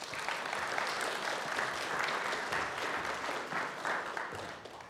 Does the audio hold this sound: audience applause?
yes